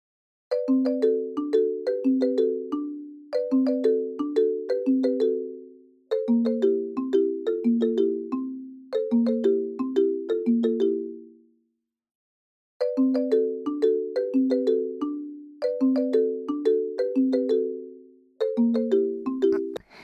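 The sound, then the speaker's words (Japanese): A melodic phone ringtone plays in repeated bursts of descending chime-like notes, looping several times with a brief pause partway through, clear with no talking, before the call is answered. “もしもし？ごめんね。昨日早めに寝てたから電話出れなくて。”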